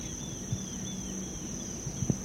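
A grasshopper's thin, high-pitched buzz drones steadily and unbroken throughout, faint, over quiet outdoor background with a few soft low thumps.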